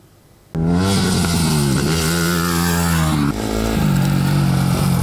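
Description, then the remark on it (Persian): The motorcycle of an Iranian woman motorcyclist starts up abruptly and revs loudly, its pitch rising and falling through several throttle blips before settling into a strong, steady roar. “دختر موتورسوار ایرانی که با موفقیت آرزوهایش را دنبال کرده.”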